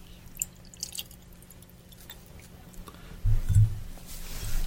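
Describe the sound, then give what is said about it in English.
Liquid poured over ice in a glass: scattered drips and small clinks, then a heavier splashing burst and a steady rushing trickle toward the end, with no voices. “Pour a little of this over the ice and see what we get.”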